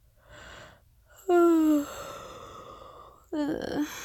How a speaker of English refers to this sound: I know if I start, you'll start, and then we'll never stop. I'm sorry. I'll promise I'll try not to yawn again.